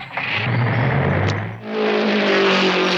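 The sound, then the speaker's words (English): A big car's engine runs loudly, its steady drone jumping to a higher-pitched rev partway through, then holding there. No one speaks. “Wow, a big car!”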